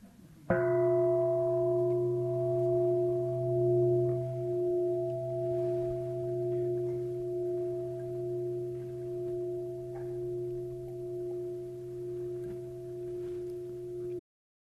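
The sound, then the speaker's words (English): A single final meditation bell for Zen is struck once and rings out, its sharp attack giving way to a long, steady hum of layered tones that slowly wavers and fades over about fourteen seconds, with no talking. “I'll give you a last bell for Zen.”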